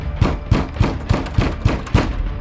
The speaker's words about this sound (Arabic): وراءها ارتفعت أصوات الطرق على الباب. قد عاد المزيد من الحراس.